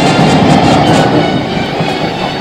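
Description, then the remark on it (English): A train rumbles steadily past, its wheels clattering over the rails in a continuous, loud clickety-clack with a broad hissing roar and no voices. “So I hear a choo-choo train.”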